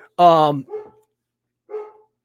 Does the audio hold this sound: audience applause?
no